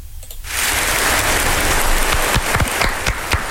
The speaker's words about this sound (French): Oui, je me suis auto-mis des applaudissements vu que c'est moi qui fais.